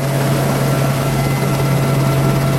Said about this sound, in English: I was on Avenger 2, that was Zulu Gulf 821. Now, after being welcomed by the Royal Marine Sergeant and strapped in for takeoff, the doors were opened and we taxied out.